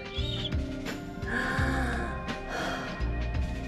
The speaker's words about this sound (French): J'inspire et je relâche. J'inspire et je relâche.